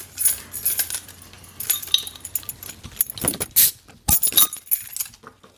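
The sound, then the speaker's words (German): A Sternburg beer bottle is pried open with a bottle opener: metallic jingling and rattling, then a few sharp glassy clicks and a quick snap of the cap, with no talking. “Krieg ich mal einen Flaschenöffner?”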